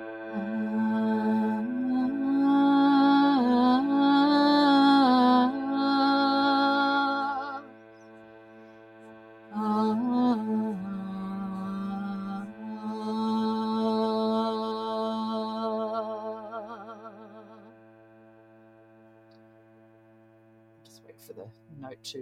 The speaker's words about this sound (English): This is a harmonium, which is like a bellows with keys on it. So you can hear the drone coming through, and I'll just sing around it for a bit.